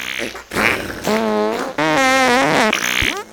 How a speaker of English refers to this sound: Oh no, here's another one. Wow, it's like you guys are communicating with your farts.